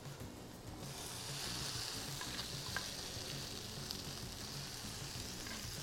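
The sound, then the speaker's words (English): Steady crackling sizzle of spices frying in a pan, with soft scraping and clinks from a utensil stirring through them. The hiss rises slightly after the first second and holds constant, with no voices. “So now we want to mix this well and we want to cook this for about 2-3 minutes.”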